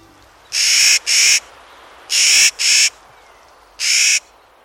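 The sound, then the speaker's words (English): Harsh, gruff calls of a Clark's Nutcracker ring out loud in a broken rhythm: two quick rasping notes, another pair, then a single call, with a faint outdoor hush between. “These gruff calls belong to a bird discovered 200 years ago near present-day Kamiyai, Idaho.”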